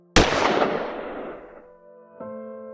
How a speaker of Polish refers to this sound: Świadkowie zeznali, że pierwsze strzały padły około 20 bądź 20.30.